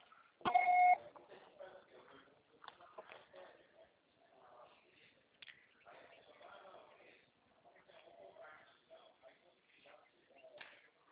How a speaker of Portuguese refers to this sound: Gravo seu recado. Você só será tarifado após o sinal.